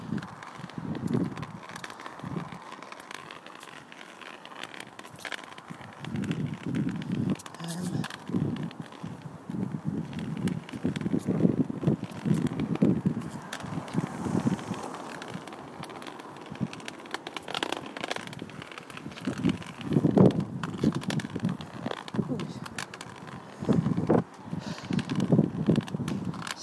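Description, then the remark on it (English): Outdoor wind blows steadily, with low buffeting rumbles rising and falling in gusts, alongside irregular crunching footsteps on gravel and scattered crackles; no one speaks. “It's quite windy as well.”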